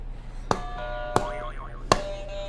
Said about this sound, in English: You want to hit another buzzer?